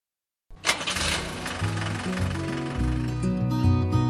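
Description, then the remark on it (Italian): After a brief silence, a heavy truck engine cranks and roars to life, then settles into a loud, deep, rumbling idle with shifting throaty tones, with no voices. “Richiamano i bisonti della strada, tir, autotreni, camion di dimensioni enormi con il loro carico pesante da portare a destinazione.”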